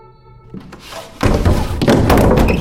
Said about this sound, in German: Du hämmerst mit beiden Händen gegen den Boden.